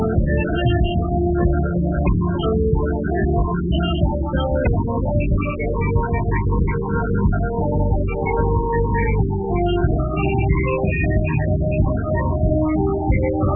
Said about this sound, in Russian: А вот теперь концовка с живого концерта. Группе даже тон пришлось немного сменить, чтобы подстроиться под барабанщик.